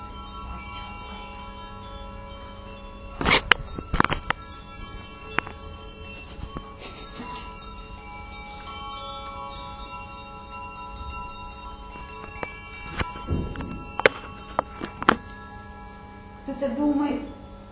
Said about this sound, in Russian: тихо звучит колокольчик под названием «Солнечный радостный день». Да-да, у Анжелы новый инструмент